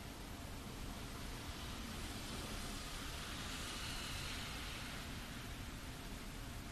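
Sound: rain falling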